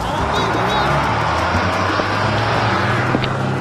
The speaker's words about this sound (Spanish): ¡Ahí viene el bus! ¡Me voy!